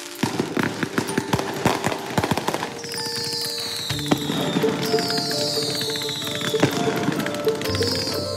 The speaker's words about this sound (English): Fireworks, loud ones, keeping you up all night ones.